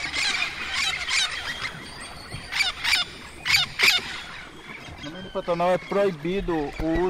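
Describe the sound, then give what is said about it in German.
In a swamp, birds chirp and call in repeated bright bursts from the trees, then monkeys roar in louder, wavering calls near the end over a steady jungle background. “Und aus den Bäumen erklingt das Gebrüll von Affen und das Gezwitscher von Vögeln.”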